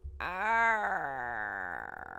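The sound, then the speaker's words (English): A person imitates a mournful crow with one long, drawn-out vocal wail that swells slightly in pitch and then slowly sags downward before trailing off, sounding strained and nasal. “I'd like to hear the mournful crow, though, too.”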